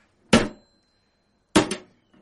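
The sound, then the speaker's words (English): Two loud, sharp metallic blows about a second apart, a hammer smashing the padlock on a small brown metal cash box in a flat in the morning, each ending in a brief clattering ring, with silence around them. “carrying a small brown metal cash box with a padlock. Finds a hammer. Raises, smashes, down.”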